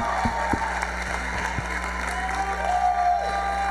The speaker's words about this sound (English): And please give them the loudest, the biggest, the most loudest applause ever. Right now, come on, loud. Oh, good job.